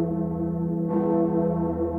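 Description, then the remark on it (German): The Gloriosa, a large church bell, rings with a deep, sustained hum, its layered tones lingering steadily before a fresh strike near the middle adds a brighter, swelling clang. No voices are present. “Das ist die gleiche Glocke, die einem tief beeindruckt, betrübt einem nachher oder gibt eine abwehrende Haltung dazu.”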